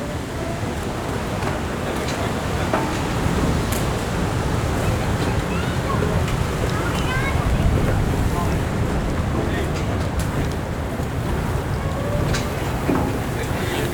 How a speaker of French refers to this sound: Ambiance, waouh. Un petit vent canadien passe entre vos oreilles.